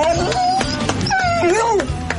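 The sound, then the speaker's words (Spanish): A dog whimpers and yips in a run of high, wavering whines and short squeaky cries, with faint background noise underneath. “Escuchamos a Carlota y a su perro solidario, Nublo. Él da las gracias, pero de la siguiente forma”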